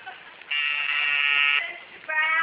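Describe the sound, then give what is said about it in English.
An office intercom buzzer, installed backwards with the button in the secretary's office and the buzzer in the boss's office, sounds loudly with a harsh, steady electric drone for about a second, falls quiet briefly, then starts buzzing again. “When you put that buzzer system in, you done got it in backwards.”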